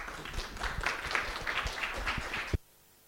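An audience applauds in a dense, steady patter of many hands clapping for about two and a half seconds, then the applause cuts off abruptly into near silence.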